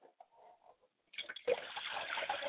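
pouring liquid libation

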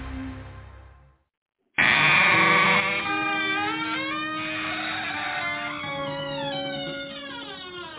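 goat bleating

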